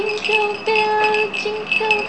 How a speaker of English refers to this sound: Oh, I can hear the ring. The ring sound. Is a bell? Is this a bell? Jingle bell. Oh, jingle bell.